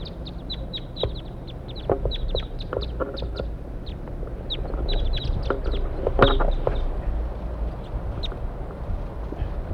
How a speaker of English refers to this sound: Stop. Pointed at the wild birds. Here they come.